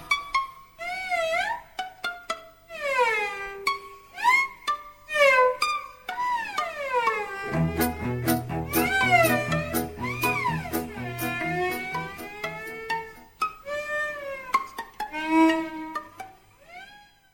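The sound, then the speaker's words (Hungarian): A string of cat meows and yowls in rapid succession, rising and falling in pitch, loud and close; about halfway through a low, steady musical bass pulse begins beneath them. “Csuda zenekar, cincog nyávok, a lagziba a táncot csak erre járod.”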